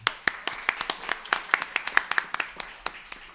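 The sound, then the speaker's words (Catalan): A short burst of applause from a small group welcoming a guest to a programme, with sharp, fairly loud claps arriving in a quick, uneven patter for a few seconds. “Doncs bé, avui tenim entre nosaltres per fer el programa, tenim el Francesc Pons, un aplaudiment.”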